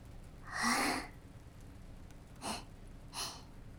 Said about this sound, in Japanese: もう、白金が真面目なお話をしてるのに、大あくびなんて。